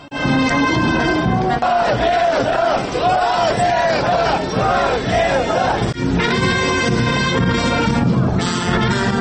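A large crowd at a Victory Day march of the Communist Party led by Vladimir Voronin chants and shouts in unison, loud and sustained, with rising and falling waves of massed voices and repeated rhythmic cries of "hurrah" and "victory".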